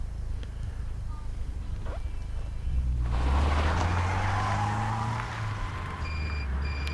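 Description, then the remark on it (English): Mobile game sound effects of oncoming cars that the player avoids by holding the screen left or right: a steady low engine drone, then a loud rushing whoosh with a rising, sweeping motor hum, followed by a few short high electronic beeps at the end. “you've got to try and avoid the cars, of course, on coming towards you”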